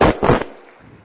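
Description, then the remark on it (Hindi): A loud, dense burst of clapping from an audience in a hall, strongest in the first half-second, then quickly thinning out and fading to a faint patter by the end. “थोड़ा जोरदार तालियां बजाएंगे।”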